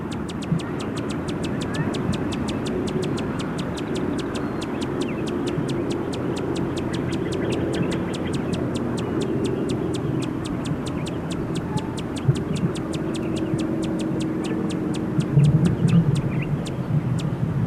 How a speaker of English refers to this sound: Those were sounds of a male Allen hummingbird.